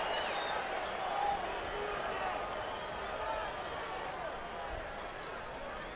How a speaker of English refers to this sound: And that is a strike at the very top of the zone, and he gets a sarcastic cheer from the crowd here at Oracle Park.